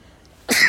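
sneeze

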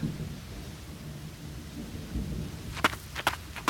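thunder rumbling

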